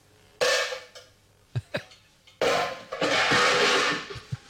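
Loud metallic clanging and clattering of someone banging on cooking pots: two long bursts of noisy rattling crashes with a few sharp separate bangs between and after them, and no voices.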